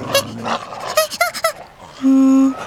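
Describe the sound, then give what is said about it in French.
Dogs bark and yelp in a quick, agitated flurry of loud bursts as they attack burrows, baring their teeth, followed by a sustained, steady whining cry. No one speaks. “Les chiens, peu impressionnés, reviennent à l'assaut des terriers, montrant des crocs autrement plus inquiétants.”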